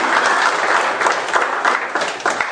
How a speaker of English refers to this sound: Give the Lord a hand of applause.